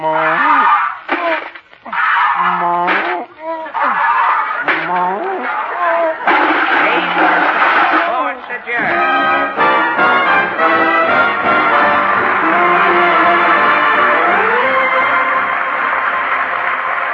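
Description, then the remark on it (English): A mechanical cow full of nuts, bolts and rivets being milked: wobbly, wailing moo-like moans in bursts, then a loud, steady racket of clanking, rattling metal that carries on to the end. “That cow's full of nuts, bolts, and rivets.”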